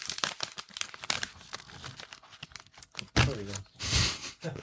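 A chocolate wrapper rustles and crinkles in quick, irregular crackles, with a few louder, fuller crunches of the foil toward the end.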